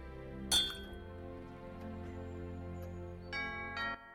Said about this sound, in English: They chink their cups.